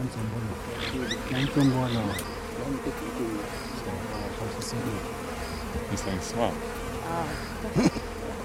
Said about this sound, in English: It stinks, and the dead beast is swarming with flies.